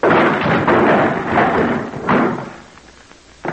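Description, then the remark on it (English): A door is smashed in by a shoulder to force entry into someone's rooms: a loud opening crash, a second heavy crunching impact midway with rattling debris, then a final sharp thud, with no voices. “They don't make doors too big for you. Put your shoulder to it.”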